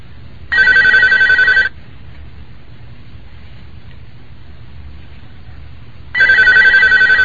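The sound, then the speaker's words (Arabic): A telephone rings twice, each ring a loud, steady electronic trill lasting about a second, separated by a long pause over a low background hum; a call coming in to the phone-in question-and-answer series Silsilat al-Huda wal-Nur. “من سلسلة الهدى والنور أجوبة على أسئلة عبر الهاتف.”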